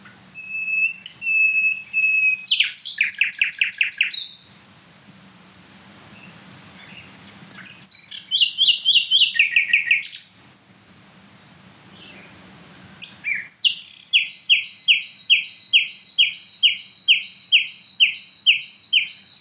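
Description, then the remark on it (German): Loud gurgling song of a nightingale in several bursts: a sustained whistle, then rapid bubbling phrases separated by short pauses, ending in a long run of fast repeated notes. Nobody speaks. “Boah, was ist das für ein Glucksen?”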